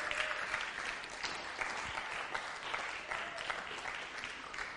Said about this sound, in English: As they come in, won't we give them a round of applause for doing what they've done? Well done, guys.